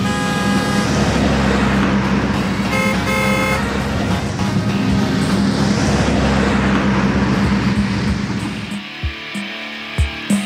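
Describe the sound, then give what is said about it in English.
Dense, loud road traffic on Las Vegas Boulevard rumbles steadily while car horns blare in sustained honks, then the roar thins out near the end into a few scattered engine passes and thumps. “It was entertaining at times, watching them try and cross over Las Vegas Boulevard.”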